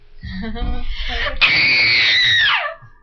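A woman lets out a piercing horror-movie scream, close and loud: a shaky rising build-up bursts into one long, sustained shriek that slides downward and cuts off.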